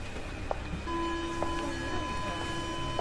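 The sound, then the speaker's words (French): A Paris metro train idles in a station just before midnight in June, in heat of around 35 degrees, a steady rumble under sustained high electric whining tones, with a few sharp clicks and faint background voices. “Perdue dans ses pensées, elle attend son métro.”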